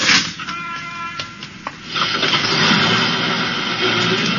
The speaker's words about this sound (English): And as the bus started up, the driver said